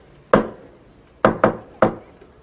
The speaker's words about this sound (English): If I have any kind of news of any kind, something good, something nice that I want to share with you or something, mm-hmm. I will knock 4 times, okay? It's gonna be our secret code.